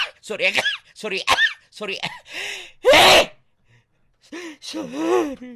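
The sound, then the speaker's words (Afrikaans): A single sharp, loud sneeze bursts out, preceded by a quick breath and surrounded by brief vocal sounds and voices before and after. “Sorry, dit was niesies.”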